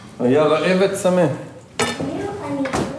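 Dishes and cutlery clink at the breakfast table of an Israeli family of four in Kibbutz Nir Am, on the border with the Gaza Strip, with two sharp clatters standing out while voices talk over the clatter throughout.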